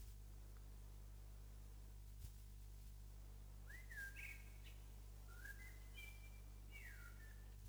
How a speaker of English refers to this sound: Somebody thinks a robin. It's not a robin. Shall we look at the picture? It's a blackbird.